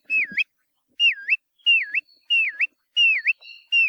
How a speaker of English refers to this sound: If you see a bird near the shore with a really long, downward-curved bill with a call that's been described as sounding like whistles of an adoring pursuer, you're probably looking at a kioea.